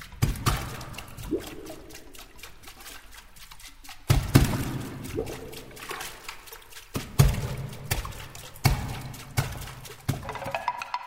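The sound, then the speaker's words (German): Irregular hollow knocks and taps ring out over watery sloshing and trickling, with sharper accented strikes around the middle, as a percussionist strikes water bowls as percussion instruments. No one speaks. “Doch ihn interessiert auch der Klang von Dosen, Glas- oder Plastikgefäßen, von Holz- oder Wasserschalen.”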